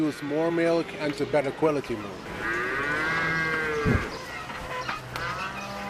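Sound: dairy cows mooing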